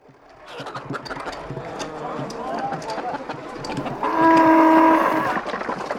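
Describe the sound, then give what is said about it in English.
A cow being taken to the local market lets out a loud, drawn-out moo near the end, while hooves clop along steadily amid a busy background murmur of voices. “So Jack takes the cow to the local market.”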